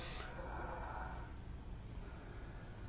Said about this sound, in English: And then you just breathe through your nose after two or three times. Big breaths.